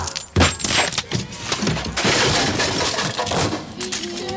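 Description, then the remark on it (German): A heavy thud of bodies slamming into a door as people throw themselves against it on a count of three to get in, then a loud, sustained crash with clattering and rattling debris that carries on for several seconds, with no talking. “Auf 3 gehen wir rein. Wir werfen uns gegen die Tür.”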